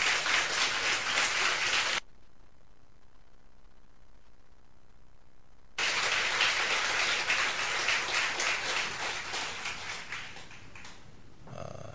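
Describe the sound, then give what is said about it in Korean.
An audience applauds a group of four visiting friends who are filming over five days, in dense, crackling bursts, breaks off for a few seconds of near-silence, then claps again loud and sustained before tapering away. “그러니까 거니까 나중엔 여러분들에게도 보내드릴 테니까 우리 5일 동안 우리 수고하는 우리 친구들에게 박수 한번 보내주세요.”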